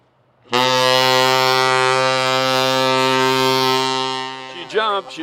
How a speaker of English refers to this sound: Now hear this, now hear this. We'll be testing the ship's whistle. We'll be testing the ship's whistle. That is all.